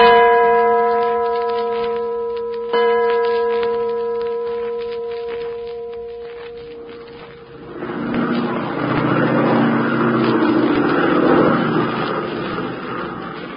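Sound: airplane engine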